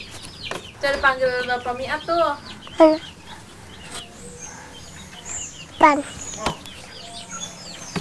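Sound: chickens clucking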